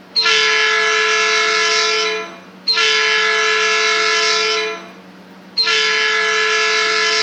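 A train passing through a town intersection blares its horn in three long, sustained blasts separated by short gaps, a loud, harsh multi-toned chord with no talking.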